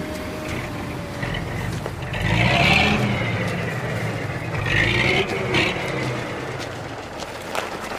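A heavy truck engine rumbles steadily outside a coal mine, its low drone swelling twice as it revs, with faint scraping and mechanical clatter mixed in.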